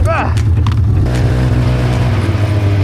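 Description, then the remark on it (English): A Volkswagen Beetle engine runs loud in the snow with a deep, steady rumbling drone, revving slightly throughout, while a brief voice cuts in at the start. “Back on the Beetle, the snowmobile.”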